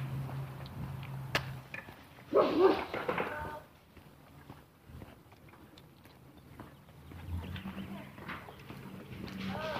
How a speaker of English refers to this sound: Big dog behind the case, behind the fence here, barking at the little dog walking by. Probably barking at me too.